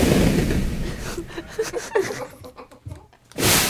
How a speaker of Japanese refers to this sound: ほら、そんな感じで 爆発したね。爆発した。